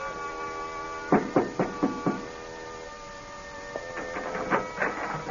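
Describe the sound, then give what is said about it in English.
Knocking on a door on the third floor of an apartment house six blocks from the ocean: a quick series of five firm raps, then a second, slightly softer run of knocks a moment later, all over a steady low humming drone. “He pauses, sets the suitcase down, and knocks on a door.”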